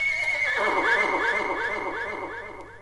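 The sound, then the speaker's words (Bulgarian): A white horse whinnies in a long, shrill, quavering cry that wavers up and down for a few seconds before slowly trailing off, fairly loud. “Литна с най-белия кон.”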